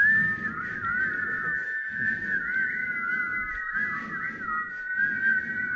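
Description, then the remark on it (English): Many people in an audience at a Sunday service whistle together at once, a wavering, overlapping chorus of high tones held steadily for several seconds, with a low crowd rumble underneath and no talking. “Let's whistle all over all the congregations of the Kootenays. Can we whistle right now?”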